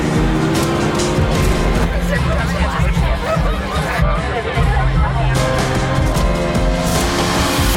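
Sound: car engine revving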